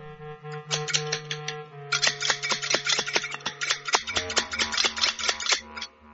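Scissors snip rapidly and repeatedly, a quick run of sharp metallic clicks as a hair stylist cuts a girl's hair short, over a steady low hum of background music.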